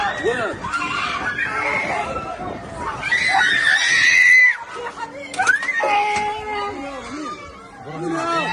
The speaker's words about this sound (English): The screams of children can be heard as the camera shows images of shredded bodies and injured children.